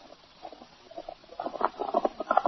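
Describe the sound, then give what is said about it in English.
Rapid, rhythmic hoofbeats of a single horse galloping fast down the other side of a stream, muffled and soft at first, then growing steadily louder and sharper as the quick drumming pattern continues without pause. “Sounds like one horse traveling fast.”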